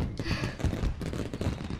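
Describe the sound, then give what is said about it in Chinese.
A steady barrage of fireworks pops and crackles on a cold evening, with overlapping bursts rumbling for the full two seconds and no voices heard; among them is a purple firework. “好了，看烟花吧。”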